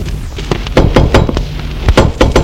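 knocking on a door

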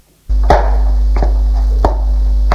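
footsteps

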